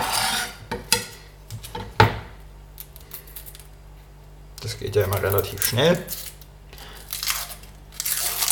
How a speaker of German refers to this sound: Und ich fange an mit der Zwiebel. Wir schneiden eine halbe Zwiebel in kleine Würfel.